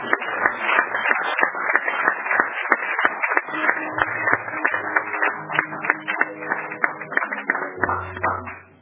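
A crowd applauds the workers steadily for about nine seconds, a dense patter of many hands clapping at once, holding a fairly even level before tapering off at the very end.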